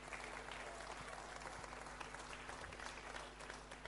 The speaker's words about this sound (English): Oh, thank you very much. Give the judges a wee clap.